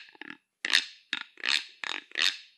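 A notched stick rasp, a common instrument used by many Pueblos, scraped across its notches with a deer bone: a soft opening scrape, then five loud grating strokes in a steady back-and-forth rhythm, each a buzzy, ratcheting rasp. No one speaks.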